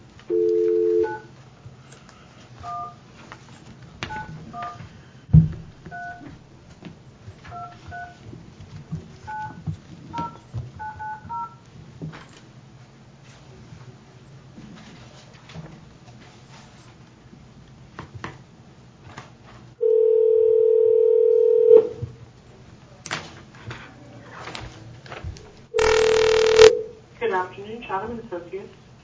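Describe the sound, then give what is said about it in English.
A quick run of short, two-pitched telephone keypad beeps dials a number to call back the Price Chopper people, from the Taney County Board of Equalization, about an appeal on the Price Chopper in Branson. A couple of long, steady ringing tones follow. A low murmur hums faintly underneath. “Let me call the Price Chopper people back here real quick.”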